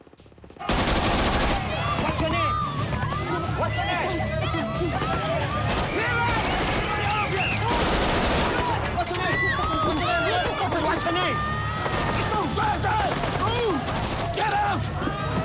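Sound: gunfire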